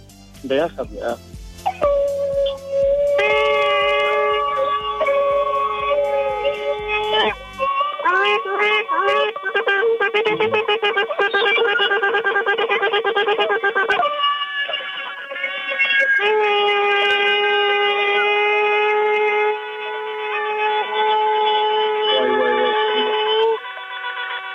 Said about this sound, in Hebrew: זה ענק, תשמעו, זה ענק. תקיעת שופר המונית גם בירושלים וגם בבני ברק, ואני חושב שיש לנו כאן שתי מנצחות, גם ירושלים וגם בני ברק.